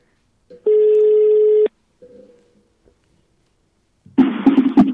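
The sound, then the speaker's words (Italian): A loud, steady ringback tone from an outgoing phone call sounds for about a second, followed by a fainter, shorter tone, then a noisy, crackly burst as the line seems to connect. “In attesa, oh, lo squillo si sente bene ora.”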